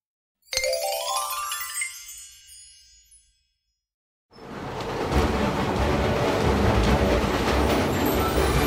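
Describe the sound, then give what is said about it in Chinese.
A ringing chime fades out, and after a brief silence a train's steady, loud rumble rolls along its rails, continuous, with no voices, as the characters Billy and Cody ride the train on an outing. “表演结束后， Billy 和 Cody 一起搭乘火车出游。”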